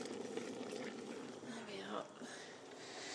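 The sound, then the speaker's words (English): Thick jam bubbles steadily in a big pan for a few seconds, a soft continuous popping texture with a brief scraping swirl of a spoon stirring, and a faint voice underneath. “I'm just giving a good stir here. You can hear that bubbling away.”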